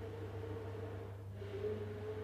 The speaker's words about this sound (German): hat gerade den Mixer angeschmissen. Wahrscheinlich Healthy Smoothies oder irgendwas.